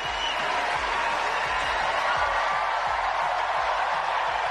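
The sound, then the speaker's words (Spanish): A huge crowd on Wimbledon's Centre Court erupts in a thunderous ovation welcoming Rafael Nadal back after three years, dense clapping and cheering roaring steadily and loudly for several seconds without letting up. “La ovación era atronadora para el hombre que ya tiene conquistado el corazón de todos los ingleses y de todos los amantes del tenis.”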